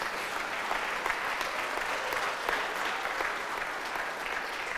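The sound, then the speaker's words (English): A church audience claps steadily for several seconds one evening to thank the Music Hub for leading worship, a dense, even wash of many hands applauding together, with no voices standing out. “Let's give them a clap, shall we, leading us tonight.”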